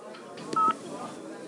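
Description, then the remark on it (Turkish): A brief telephone keypad tone sounds with a sharp click on either side, like a number being dialed and the receiver put down, over a faint murmur of background noise. “Niye kapadınız telefonu? Yanlış numara mı?”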